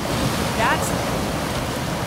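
Floodwater pooled on 1300 South at about 700 West rushes along the street in the morning in a loud, steady roar, a dense, overwhelming wash of churning noise that fills the whole stretch without pause.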